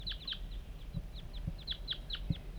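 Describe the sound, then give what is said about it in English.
Wild birds call repeatedly in quick, overlapping high-pitched chirps that dip in pitch, over a steady low rumble broken by a few soft thumps. No one speaks. “49, wild birds are coming now.”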